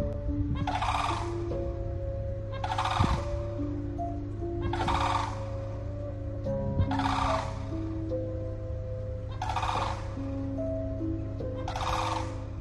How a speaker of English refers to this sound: As Hurricane Milton was approaching, multiple groups of birds were seen walking around, calling out, almost looking as if they were warning people.